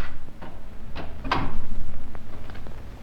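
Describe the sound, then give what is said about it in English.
A few sharp clicks and knocks, like a lock being turned and a latch released, followed by a louder thud as a door swings open against a low background rumble. “Just a moment while I unlock the door.”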